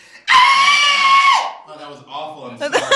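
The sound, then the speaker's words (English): A man's voice imitates the shrill, high-pitched scream of a 12-year-old girl, loud and sustained for over a second before breaking off, followed by a brief murmur of talk and laughter. “this is … doing his imitation of a 12-year-old girl screaming”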